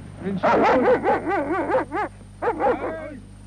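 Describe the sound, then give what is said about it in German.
A border patrol dog on a long leash, out with two soldiers on skis in a snowy forest, barks in a rapid series of sharp, high yelping barks, about a dozen in quick succession with a brief pause before a final burst, over a low steady background hum. “So, das war also der vierbeinige Begleiter, ein Pferdenhund an langer Leine.”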